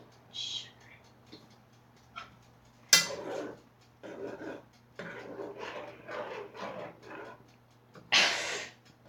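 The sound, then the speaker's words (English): Pots and pans clatter, with two sharp metallic clanks standing out over a low, steady kitchen hum and some muffled shuffling and voices in between, while a pot boils on the stove as lunch is cooked. “Hold on a sec. It's boiling. I wouldn't even need to turn it down.”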